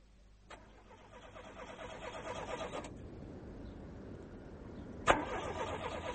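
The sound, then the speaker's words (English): A car engine cranks over and over with a rhythmic, labouring churn for a couple of seconds without catching, pauses, then starts grinding again in a second struggling attempt; the damp is stopping it from starting during its Friday evening run. “Yes, it's the damp, I suppose. I always give the car a run on a Friday evening, in case we need it at the weekend.”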